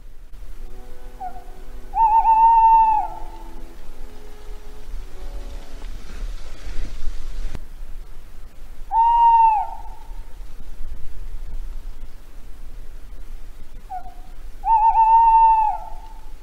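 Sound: little owl calling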